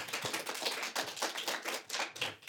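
A crowd applauds steadily, many hands clapping in a dense, crackling patter with no one speaking over it.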